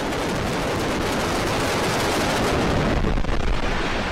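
rocket engines firing

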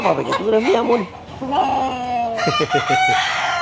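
rooster crowing

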